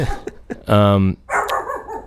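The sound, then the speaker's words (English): An excited dog, Foxy, lets out a few quick short yips, then one loud, drawn-out bark, followed by someone talking over faint background sounds. “That's my kind of dog right there.”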